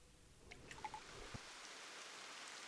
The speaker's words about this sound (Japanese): 不意にポツポツと雨が降り出した。